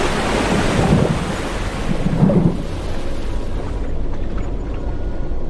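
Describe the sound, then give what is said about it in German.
Loud, continuous roar of storm-driven ocean waves and howling wind on the beach at Holmsland Klit, Denmark, the waves carrying a three-masted sailing ship ashore. Heavy surges crash around the first and second seconds before settling into a steady rumbling wash. No voices. “Und die vom Sturm aufgepeitschten Wellen tragen den Dreimaster einfach an Land, als sei es ein kleines Ruderboot.”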